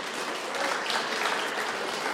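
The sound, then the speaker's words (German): An audience at a Frühschoppen claps steadily, a dense, continuous patter of many hands at a fairly even loudness for a couple of seconds, with no voices over it. “Auch dafür einen Applaus.”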